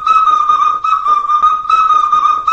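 whistling

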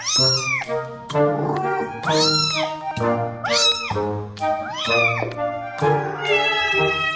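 domestic cat meowing

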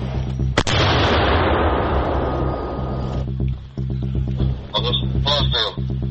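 mortar round being fired

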